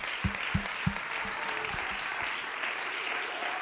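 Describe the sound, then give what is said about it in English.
An audience at a church gathering claps together after a prayer: a steady wash of many hands, with a few sharper, louder claps standing out in the first couple of seconds before the applause settles into an even patter. “Why don't we give a hand clap?”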